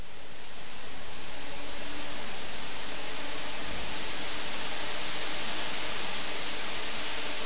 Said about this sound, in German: Das, was ich hier wie das stärker werdende und dann wieder abflauende Rauschen vieler Blätter mit dem dazugehörigen Wind anhört, sind tatsächlich die Geräusche von Lüftern. Rhythmisch befüllen sie 19 von der Decke einer Fabrikhalle hängende große